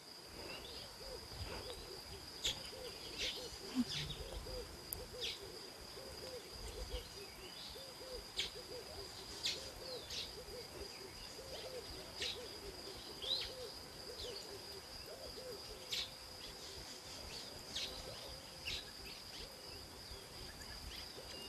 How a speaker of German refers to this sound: nehme bitte mal diese Geräuschkulisse wahr. Nehme dieses Vögelgezwitscher wahr. Diese ganz vielen Tiere, die ich nicht kenne, diese vielen Vogelarten, die ich nicht kenne. Aber versuche einfach mal still zu sein und nimm das Ganze einmal wahr.